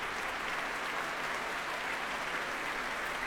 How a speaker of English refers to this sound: And applause now for the members of the BBC Symphony Orchestra.